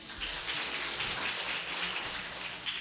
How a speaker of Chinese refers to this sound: 唱得很开心、啊、唱得比我好，来给自己一些掌声，谢谢。